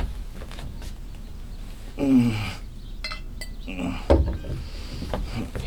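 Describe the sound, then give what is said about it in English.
Water pours into a glass with a rising gurgle, followed by a sharp clink as the glass is set down, fairly clear. “Do you think you could give me a glass of water?”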